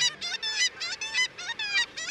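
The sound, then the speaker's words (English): Black-legged kittiwakes, oceanic gulls, call in a quick series of shrill, nasal cries, about eight bursts in rapid rhythm, loud with no voices. “The cry of the kittiwake rings out across the northern ocean.”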